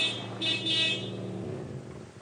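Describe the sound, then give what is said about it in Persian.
A car horn blares in one long, steady honk lasting a couple of seconds, loud, with no voices over it. “چه خبره؟ چه بوق میزنه؟”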